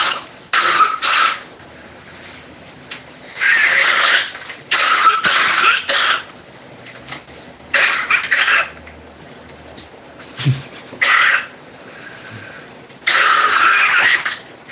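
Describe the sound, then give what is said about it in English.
An elderly woman, a grandmother, coughs repeatedly, a series of harsh, raspy bursts in uneven clusters with short pauses between them, fairly loud, with no talking. “What was that? Oh, coughing grandma.”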